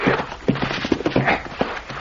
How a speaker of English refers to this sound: I brought the horses, boss.